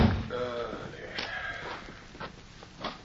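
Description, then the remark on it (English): The door of the small office of the El Camino jail is unlocked and pushed open: a short creaking groan at the start, then a few sharp clicks and knocks spaced out over a couple of seconds, moderately loud with no talking. “Weary from a long day's ride, Morley unlocked the door and stepped inside.”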